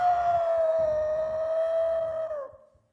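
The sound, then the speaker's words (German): The long, distant, hateful howl-like scream of a water horse holds one steady mid-pitched tone for about two and a half seconds, then fades out, with low rumbling underneath and no voices. “Das Wasserpferd konnte ich nicht mehr sehen, aber ich hörte noch aus der Ferne seinen hasserfüllten Schrei.”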